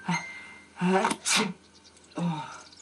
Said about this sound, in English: Did you hear the sneezing, Doctor?